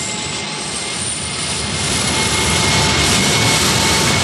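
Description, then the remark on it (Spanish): The four powerful turbines of a giant four-engine jet airliner start up with a loud, steady roar, a broad rushing whine that builds slightly and holds, as the plane moves slowly to its take-off position on a runway at Lisbon airport. No voices. “Las cuatro potentes turbinas del gigantesco jet empiezan a funcionar y la nave avanza lentamente para tomar su posición de despegue en una de las pistas del aeropuerto de Lisboa.”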